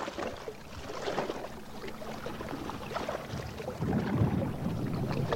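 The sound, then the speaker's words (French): Water sloshes and laps steadily against a boat hull on a lake in New Hampshire, with a broad wash of noise that swells louder near the end and a faint breeze in the background. “In the background, you can hear the waves.”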